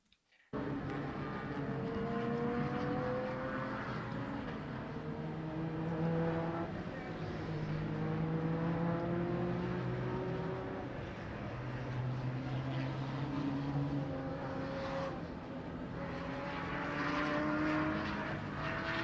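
Race car engines roar steadily for the whole stretch at Road Atlanta (Michelin Raceway), their loud droning pitch repeatedly climbing and dropping as the cars accelerate, shift and pass one after another, with no talking.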